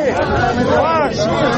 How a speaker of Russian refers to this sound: Да, вот задерживают общественного активиста Александра Рыклина, который точно так же просто отошел в сторону, развернул плакат и встал в одиночном пикете. Люди вокруг кричат «позор».